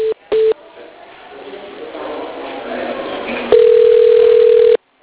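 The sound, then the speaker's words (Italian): A telephone ring tone over a phone line during a call to the San Martino emergency room post: two quick beeps, a pause filled with muffled line noise, then one long, steady, fairly loud tone that cuts off abruptly. “Ma lo squillo è diverso.”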